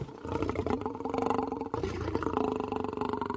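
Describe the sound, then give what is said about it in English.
A lion roars in a deep, sustained rumble lasting a few seconds, loud, with a brief catch partway through before the growling roar continues. No one speaks. “There is a lion above you to the left, about to pounce.”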